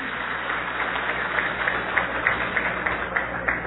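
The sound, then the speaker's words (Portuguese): Steady audience applause for Maurício, the mayor of Itaiaçu, fills the space, a dense wash of many hands clapping at once with scattered sharper claps popping out, sustained and fairly loud throughout. “Aê, pode aplaudir o Maurício, o prefeito de Itaiaçu.”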